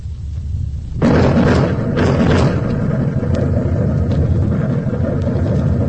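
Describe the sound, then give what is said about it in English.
A low rumble abruptly swells into a loud, sustained thunderous roar, the blast of a huge explosion that sent up a mushroom-shaped cloud, rolling, booming and reverberating across the desert without letting up. “Out of the great silence came a mighty thunder. It was the blast of thousands of blockbusters going off simultaneously at one pinpoint.”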